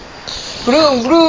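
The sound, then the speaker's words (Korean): A voice makes a brief Korean 'bureung-bureung' (vroom-vroom) car engine imitation, its pitch wavering up and down, starting after a short quiet moment. “부릉부릉 해줄까요?”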